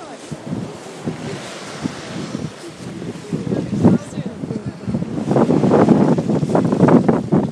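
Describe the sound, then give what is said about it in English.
Gusty seaside wind on a sunny day buffets the microphone with a steady rushing roar, swelling louder toward the end, while indistinct voices murmur faintly underneath. “I haven't said that already, but it is a bit windy because we're by the sea.”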